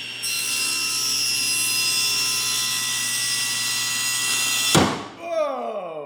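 A table saw whines steadily at high pitch. A beef brat on a board, standing in for a finger, is pushed into the blade. A sudden loud bang cuts the whine off as the blade hits the brat, stops and drops into the table, leaving a short falling rattle as it dies away.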